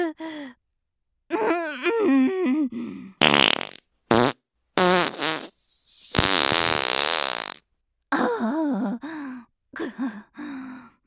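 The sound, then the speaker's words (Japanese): Breathy moans and sighs give way to two short, sharp farts, then a long, loud, wavering fart that sputters and rumbles for about two seconds before more sighing follows. “ほーら、無駄なあがきはやめて、私のおならの匂い堪能してください。”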